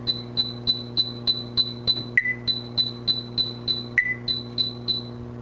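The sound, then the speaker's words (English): A steady series of short, high beeps at an even pace, with an occasional lower-pitched rare tone replacing one beep, heard twice: a sequence of a highly probable and a rare tone as used to measure mismatch negativity. A constant low hum sits underneath, and no one speaks. “So typically the way this is measured is one presents a sequence of two tones in which one is highly probable and the other one is rare, like this.”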